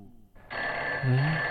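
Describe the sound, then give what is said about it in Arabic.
A telephone bell starts ringing abruptly, a sustained bright metallic ring that continues loud for the rest of the moment, with no talking over it. “من على الهاتف يا ترى؟”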